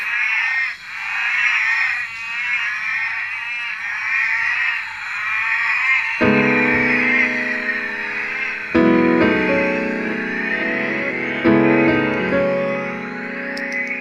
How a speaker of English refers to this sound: the northern orange eyed tree frog, Latoria xanthomera, the one calling in this recording, occurs from Townsville to Cooktown in Queensland.